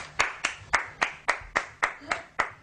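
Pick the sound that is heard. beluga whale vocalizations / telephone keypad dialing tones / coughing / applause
applause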